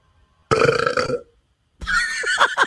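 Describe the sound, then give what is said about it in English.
Two loud human burps from a man, the first a deep resonant belch lasting nearly a second, then a pause before a second raspier, gurgling burp that runs to the end. “…, can you burp one more time for us?”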